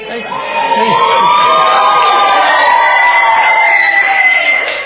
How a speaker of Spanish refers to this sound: Este programa se hace con público presente y la mucha gente que grita los viernes. Hoy no sabemos. ¿Quieren gritar un poco? A ver.